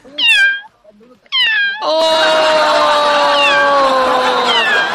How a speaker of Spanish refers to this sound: Chiquillo, se perdió un gatito. Ahí anda. Ahí anda.